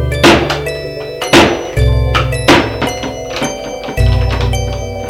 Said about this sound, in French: Des portes qui s'ouvrent.